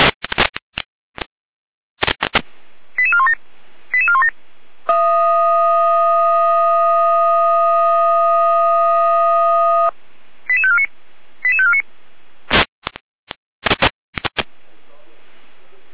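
Fire brigade radio alerting tones from the Gera control centre (Leitstelle Gera), Germany, alerting for a call-out to Moxa and Ranis: clicks of the radio key, quick bursts of beeping tones, then a loud steady tone held about five seconds, another run of short tones, and more clicks.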